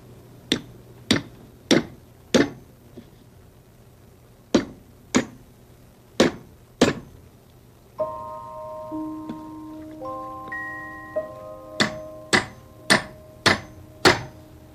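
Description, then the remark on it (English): Sharp, evenly spaced hammer blows on wood, loud, struck in quick bursts of four or five as pieces of wood are hammered together, with a brief stretch of sustained musical tones between the bursts. “You ever hammer anything?”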